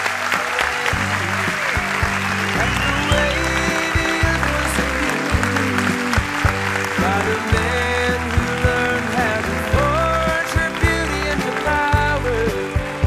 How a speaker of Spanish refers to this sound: Más aplausos y más saludos para la gran Isaías Lafuente.